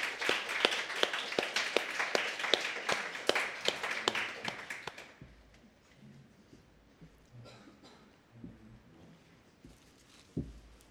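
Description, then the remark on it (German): A short burst of audience applause welcoming the first speaker, dense rapid clapping for about five seconds that stops abruptly, followed by quiet murmuring and shuffling with a single soft thump near the end. “Ruhig mit einem kleinen Applaus.”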